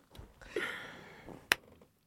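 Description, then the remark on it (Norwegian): A single sharp clap rings out, marking the start of a recording. It stands alone against a quiet, faintly breathy background, with no talking. “Han var så glad for å gjøre det. Han ville stille klappen”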